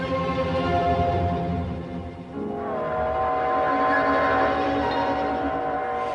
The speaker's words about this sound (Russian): Вы не знаете, какой это гудит поезд? 23:55, это сегодня на Москву последний.